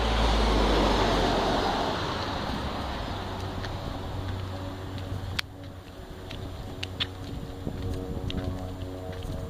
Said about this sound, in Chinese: 哎呀，什么声音呢？飞机的声音，飞机在哪儿啊？